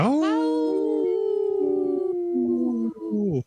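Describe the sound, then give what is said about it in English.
A person imitates a wolf howl: one long, sustained vocal howl that rises at the start, holds a steady wavering pitch for about three seconds, then breaks off. Loud, with no other sounds. “That was a good one. That was a good howl.”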